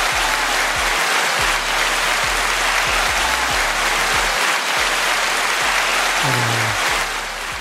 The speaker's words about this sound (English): I want y'all to give my brother a rousing, you know, applause and so forth.